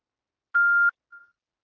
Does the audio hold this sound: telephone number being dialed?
yes